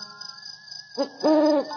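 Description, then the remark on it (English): An owl hoots twice, a short clipped note followed by a longer drawn-out hoot, clear over a faint steady night hum with a thin high whine. “That's probably just an owl.”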